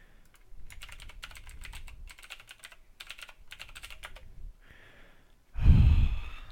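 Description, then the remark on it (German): Steady computer keyboard typing in several quick bursts of clicking with short pauses between, followed by a brief hiss and a loud, heavy exhale near the end. No one speaks. “Stabiles Tastatur ist immer.”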